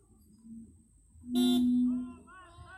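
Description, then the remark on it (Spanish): A loud car horn blares in a single steady honk lasting under a second, given in support of a protest movement, rising abruptly out of low background murmur, with voices chattering after it fades. “Pero por favor, si son conscientes regálenos un pitido en apoyo moral a este movimiento, que también es movimiento de ustedes, señores.”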